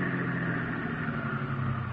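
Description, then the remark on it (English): A car engine hums steadily and evenly as the car pulls over and stops, a continuous low rumble with no voices and no sharp changes in loudness. “Now stop your car.”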